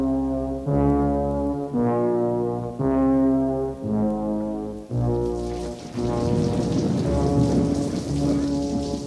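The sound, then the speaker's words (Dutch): Steady rain hisses loudly at midnight among meadows, swelling in the second half, while a deep, sustained droning tone with pulsing harmonics plays through it; no voices. “Het regent.”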